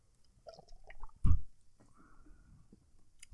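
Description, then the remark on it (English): A wet sip of slightly carbonated lemon hard tea (5% alcohol) from a yellow 16-ounce can with Dell's Lemonade and Narragansett logos: soft mouth and liquid noises, then one brief loud gulp, followed by faint swallowing and smacking sounds. No one speaks. “One sip, everybody knows the rule.”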